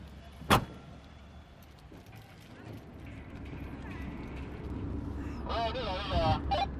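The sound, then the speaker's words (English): A single sharp car door thump rings out at the start, followed by a steady low rumble of vehicles and bustle as a group of 12 church volunteers load boxes of instant noodles, medicine and blankets into cars at a warehouse on a city's outskirts for a drive to an earthquake zone; indistinct voices rise toward the end. “At a warehouse on the outskirts of the city, a group of 12 Chinese believers from a local church are stacking boxes of instant noodles, medicine and blankets and loading them up in their cars for the two-hour drive north to the earthquake zone.”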